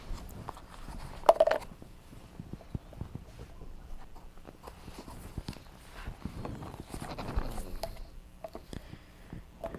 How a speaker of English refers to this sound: Horse.